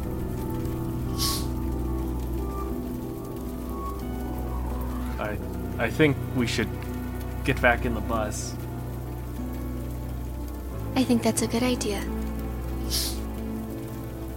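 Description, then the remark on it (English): Steady rain patters on a surface throughout, a soft continuous hiss with scattered drops, while two people speak briefly over it. “As we're getting on the bus, can I look to see how the metal is reacting to the rain?”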